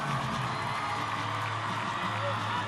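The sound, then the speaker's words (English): A large crowd of supporters waving American flags cheers and whoops continuously as Vice President Harris walks out to give her concession speech, a dense wash of voices and shouts at a steady, loud level with no pauses. “walking out to a crowd of supporters waving American flags.”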